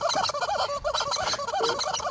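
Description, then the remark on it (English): A horse makes a strange, drawn-out warbling noise, a loud wavering squeal that rises and dips in pitch without pause for about two seconds, with no talking over it. “I would have to shoot this horse. I would be like, I gotta shoot this horse. If it doesn't stop making this noise.”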